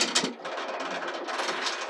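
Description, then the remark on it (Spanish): An enormous castle drawbridge mechanism lowers over a moat with a steady, harsh grinding rattle that holds an even loudness throughout, with no voices. “El enorme puente levadizo empieza a descender sobre el foso y la enorme puerta se entreabre.”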